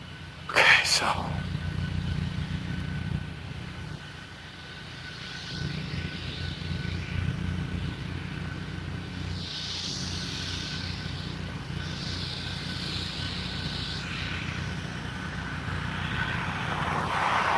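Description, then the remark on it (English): A small path-cleaning machine in a park drones steadily, a loud rumbling motor running throughout with a sharp clatter at the start and faint whining sweeps above it. “Cleaning off the paths in the park. Noisy little beach. I hope the driver's wearing ear protection.”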